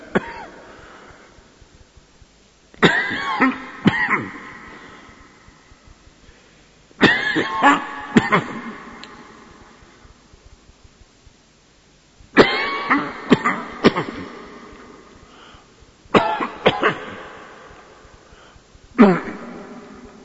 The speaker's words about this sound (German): Also hör an, Teufel. Umsonst machst du mich husten. Ich werde die Predigt nicht kürzen. Ich werde sie halten mit Husten.